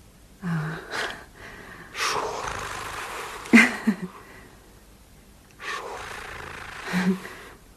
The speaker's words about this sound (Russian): Это не он дышит. Кто? Это я дышу.